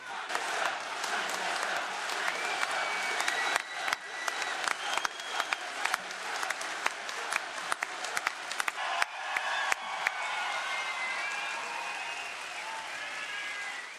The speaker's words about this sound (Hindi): और फिर Manchester town hall के सामने जैसे एक आशा और विश्वास की सुनहरी धूप खेल उठी और उस जमा भीड़ में अचानक से गूंजा एक नारा, एक नाद।